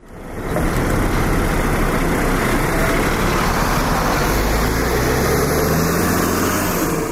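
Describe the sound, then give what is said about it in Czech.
A bus carrying refugees idles at the Serbia–Croatia border, the threshold of the European Union, with a steady, loud low rumble that holds for several seconds without letting up, no voices over it. “Sedmice su prošle pre nego što ga je ovaj autobus dovezao na prag Evropske unije.”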